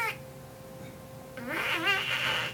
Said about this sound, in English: Oh my god, there's a dying cat in a studio.